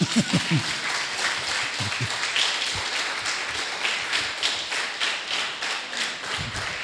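A crowd claps steadily for several seconds, a dense, even patter of many hands at moderate loudness, with a few low thumps and a faint voice or two underneath.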